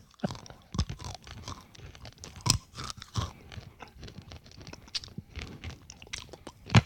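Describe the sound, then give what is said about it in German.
Crunchy, crackling chewing of hard sugary snacks, with irregular sharp bites and grinding, some louder cracks standing out, and no talking. “So ein bisschen wie diese gebrannten Erdnüsse. Wie die ich in die Tüte getan habe.”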